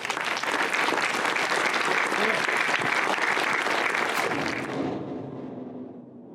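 Thunderous applause from a large crowd, dense and sustained clapping at full loudness for several seconds before tapering off toward the end, given in thanks to the helpers who set up, grill and serve drinks at the event.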